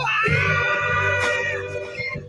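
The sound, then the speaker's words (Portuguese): A single male voice screams a long, high sustained note, loud, holding steady for about two seconds with a strained, bright edge and no talking. “Como é que ele conseguiu essa nota, né? Subir tão alto gritando e se sustentar.”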